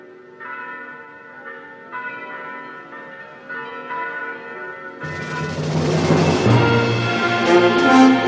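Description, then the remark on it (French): Royal wedding bells ring out in a steady series of resonant strikes, then swell midway into a loud, dense full peal of many bells clanging together. No voices. “La dernière image du massacre nous montre tous les personnages, apparemment sans vie, empilés les uns sur les autres, alors que retentissent les cloches du mariage royal.”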